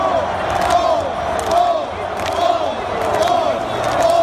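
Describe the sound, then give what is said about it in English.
A huge stadium crowd of fans performs the Skol chant at the end of a game, taunting the Vikings: massed voices bellow a low unison shout, punctuated by big collective claps over their heads about once a second, all echoing through a roaring arena. “And when this game was over, having the whole crowd in unison trolling the Vikings with a serenade of this.”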